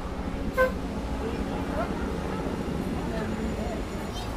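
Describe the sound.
A helicopter drones overhead in West Jerusalem, on the way to the Mahane Yehuda market, with a steady, low rhythmic thudding amid street traffic noise. A short car horn toots once near the start, and faint voices murmur in the background.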